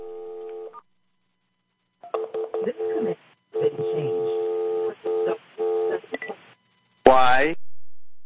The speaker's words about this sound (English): Why is that thing being triggered by me phoning on a separate phone? Maybe it's picking up the buzz tone. Maybe that's activating it.